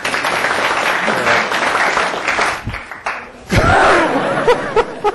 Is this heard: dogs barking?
no